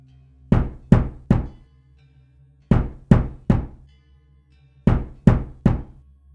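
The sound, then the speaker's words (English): Loud knocking on a door: three sharp raps in quick succession, then a pause, repeated three times. No voices are heard. “As I was attempting to understand this email, I was interrupted by three loud knocks at my door.”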